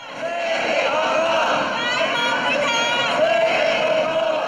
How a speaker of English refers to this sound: White-collar workers stood shouting on the sidewalk. Police wouldn't let them stand in the street and block traffic.